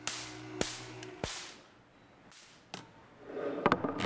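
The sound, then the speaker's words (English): Several sharp, loud cracks of artificial lightning sparks jumping between two charged domes snap at irregular intervals, with a low electrical hum early on and a buzzing, crackling burst of discharges near the end. “So what we've produced here is artificial lightning, and the crack that you hear is artificial thunder.”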